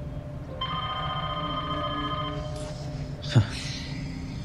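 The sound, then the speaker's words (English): A landline telephone rings once with a steady electronic trill lasting about two seconds, clear, in a place with no cell phone reception, followed moments later by a short sharp knock. “Only the landline works.”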